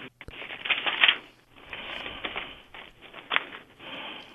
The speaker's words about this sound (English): I thought I heard paper rustling in the background. Well, yeah, moving stuff around.